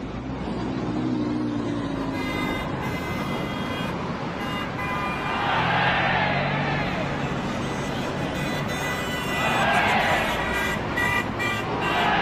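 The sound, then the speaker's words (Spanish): Busy street traffic rumbles steadily, with two cars swelling past, one around the middle and one near the end, over a continuous roadway hum and faint tonal honks. “A ver, dime qué se siente andar por la calle toreando los carros.”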